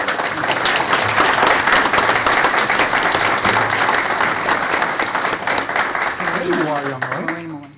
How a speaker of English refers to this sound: Would you please give them a round of applause?